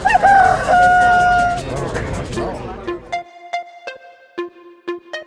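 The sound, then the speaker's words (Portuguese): A loud rooster crows once in a long drawn-out cock-a-doodle-doo, then a run of short, evenly spaced clucks follows on its own; a sound effect for the Canta Galo segment of the show Você Online. “Dentro do Você Online, fala foca e canta galo.”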